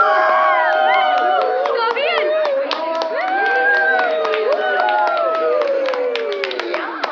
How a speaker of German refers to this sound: Jetzt jubelt das ganze Krankenhaus.